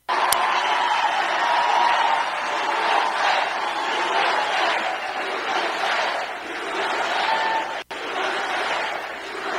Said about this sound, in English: Chants of USA. No one else got that. Standing ovation.